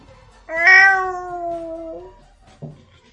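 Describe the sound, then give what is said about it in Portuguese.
A cat lets out one long, loud, drawn-out meow that slowly falls in pitch, followed a moment later by a brief, quieter chirp-like sound, with no talking. “Eu acho que teus gatos da vizinhança estão sabendo.”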